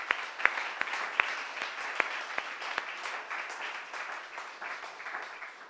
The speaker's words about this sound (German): Also, ich möchte einfach mal einen Applaus am Technikteam machen, das ja alles das ermöglicht.